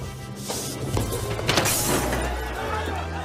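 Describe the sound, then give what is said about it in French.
A chair is thrown and crashes during a brawl at a wedding: several loud wooden thwacks and smashing impacts in quick succession, over a dense, chaotic background of scuffling and muffled voices. “Non, mais là, ce qui part, c'est juste c'est une chaise.”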